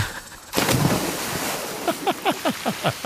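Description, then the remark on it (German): A sudden loud splash, as of someone jumping into water, gives way to steady churning water noise, followed by a quick series of short descending bubbly chirps. “Immer wenn er ins Wasser springt, schreit er Geronimo.”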